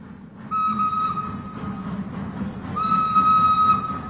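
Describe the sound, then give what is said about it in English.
A train from Baghdad rumbles steadily, sounding two long, high whistle blasts, the second longer and slightly louder, as the engine chugs into the station at Kirkuk and passengers get off. “Seeing as how you're the only white girl to get off the train.”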